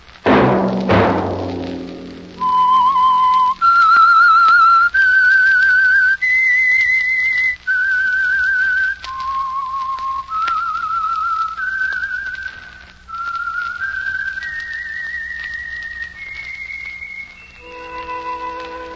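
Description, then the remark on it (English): A clear whistled melody, the signature tune of the Household Finance Corporation program The Whistler, rises and falls through a series of sustained notes, some gliding between pitches, ending on a lower tone. A brief low thump opens the passage; no one speaks. “Let That Whistle be your invitation to listen to the Household Finance Corporation program, The Whistler, each week over these stations.”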